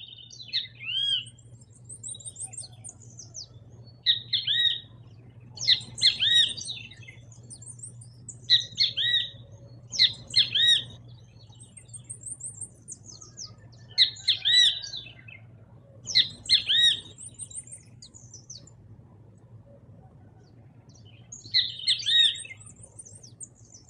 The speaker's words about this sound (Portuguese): Vocês já devem ter percebido que o bem-te-vi tem esse nome por causa do seu canto, né? É uma ave típica da América do Sul, uma das mais populares do Brasil.